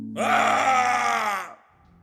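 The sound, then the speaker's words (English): A single loud, desperate scream lasting about a second and a half, coming from the back of a restaurant kitchen, behind a metal door. It swells quickly, wavers, and sags slightly in pitch before breaking off, over a low steady hum. “Then, an awful scream erupted through the restaurant.”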